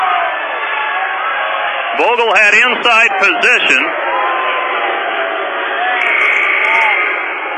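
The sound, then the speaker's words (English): A Hastings basketball crowd voices its displeasure at a foul called on a Hastings player, a steady, dense roar of grumbling and jeers that runs throughout while a commentator speaks over it briefly in the middle. “And the Hastings crowd unhappy, and I believe that was the right call”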